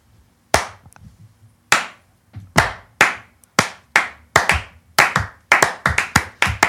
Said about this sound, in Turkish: Ben bittiği için alkışladım öncelikle.